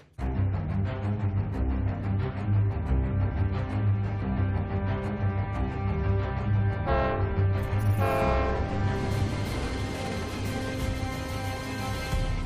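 A loud train rumbles past on the tracks, its heavy low roar continuous throughout, while a blaring multi-tone horn sounds over it, swelling strongly partway through.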